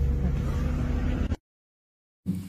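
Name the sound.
bus interior engine noise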